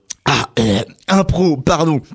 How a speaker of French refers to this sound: Pardon, oh, j'ai avalé de travers.